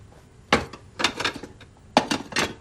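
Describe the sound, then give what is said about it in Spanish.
Dirty dishes clatter and clink in a kitchen sink full of dishes in two sharp bursts, ceramic knocking against ceramic with a few quieter rattles between them, and no voices. “entra en la cocina y va hacia el fregadero lleno de platos sucios.”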